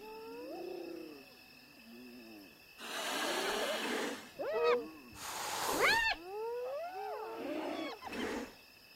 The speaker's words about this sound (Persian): کفتارها وابسته به قلمرو اند و حریف‌های ضعیف‌تر را از منطقه دور می‌کنند. کفتارها نزدیک می‌شوند. خانواده را محاصره می‌کنند.